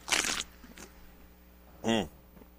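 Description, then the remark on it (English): A short, noisy slurping sip, followed by a pause and then a brief satisfied voiced 'ahh'. “Take your sip.”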